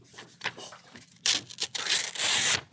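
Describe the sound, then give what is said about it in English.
Paper being torn by hand: a few short, scratchy rips followed by a louder, longer tearing stretch, with no one talking. “Can I cut this piece of paper?”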